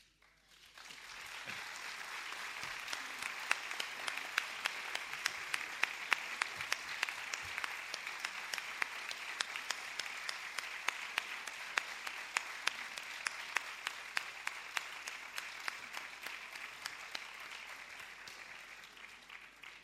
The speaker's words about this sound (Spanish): Cuando el aplauso es fuerte y cariñoso como este, no es un adiós, es un hasta luego.